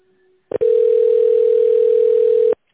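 A steady, loud telephone tone at a single mid pitch holds for about two seconds after a brief click, while waiting to be connected on a call to the company Recon Energo, then cuts off abruptly, with no voices over it.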